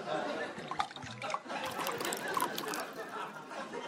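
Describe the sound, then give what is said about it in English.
Tea pours steadily into a cup as someone pours himself a cup at breakfast, a continuous splashing trickle lasting a few seconds with small bubbling surges along the way. “Pours himself a cup of tea.”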